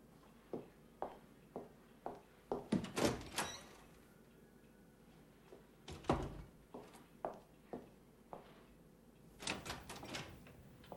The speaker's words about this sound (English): Puzzled, she opens one door and looks inside before shutting it and moving on to the next.